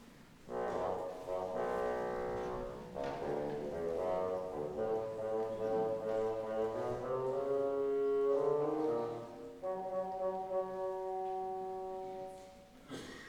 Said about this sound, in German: Der Großvater durch das Fagott.